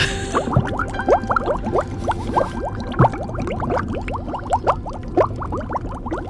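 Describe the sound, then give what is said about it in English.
Continuous wet gurgling and bubbling, like liquid churning with air, with rapid overlapping bubble pops that keep a busy, uneven rhythm. It's moderately loud, with no voices. “Sounds like she's drowning.”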